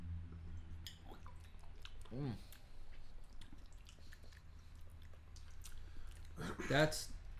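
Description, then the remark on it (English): Sipping and swallowing sounds from a few people tasting Bulldog root beer after a toast, over a low steady hum, with soft wet mouth noises and a louder slurp near the end. “All right, so take a sip. Let's unleash the taste.”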